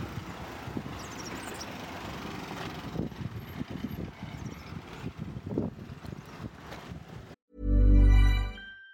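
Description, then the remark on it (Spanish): Steady street traffic with a continuous rumble of car engines passing, then cut off by a loud, sustained horn-like tone in the final second or so. “Nos sumergimos otra vez en la marea del tráfico.”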